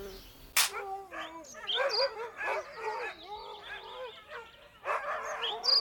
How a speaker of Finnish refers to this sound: Koirat rupesivat haukkumaan